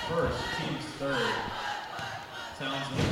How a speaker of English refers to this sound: Haven't heard that cheer in a while.